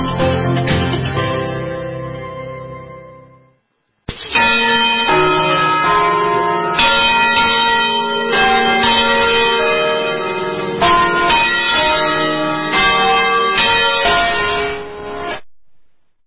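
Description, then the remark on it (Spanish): Church bells swing in full peal at 12 noon, a general ringing in all the parishes and bell towers of the diocese of Valencia, overlapping clangs ringing out loud and continuous with rich, lingering harmonics; a brief pause near the start, then a dense, unbroken wash of bells with no voices. “General de campanas que se ha producido a las 12 de esta mañana.”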